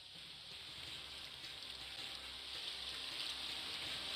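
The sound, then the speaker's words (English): Steady rushing water of a river flows without a break, a soft, hissy wash of current, fairly quiet and even throughout with no voices. “We'll go by way of the river out back.”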